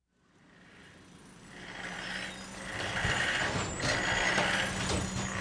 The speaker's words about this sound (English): Hold it! Stop the engine! The heavy machinery fell silent. The operator peered down from the cab.